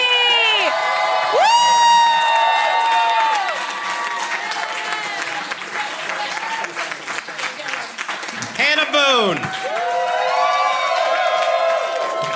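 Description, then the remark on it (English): A crowd claps and cheers steadily for a comedian being introduced, with high-pitched whoops and excited shouts rising and falling over dense, continuous applause. “Keep clapping, everybody.”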